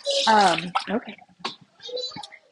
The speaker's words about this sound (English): Like, my daughter's currently yelling at me.